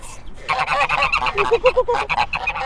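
Several geese honk in a loud, rapid flurry, their nasal, reedy calls overlapping and tumbling over each other for a couple of seconds without pause.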